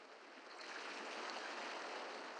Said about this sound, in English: The distant rhythm of waves against the shore.